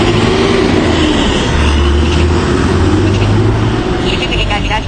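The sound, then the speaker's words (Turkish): A large city bus arrives at a stop with a loud, steady low engine drone and broad road noise, while indistinct voices murmur underneath. “Şu an bir otobüs daha geliyor.”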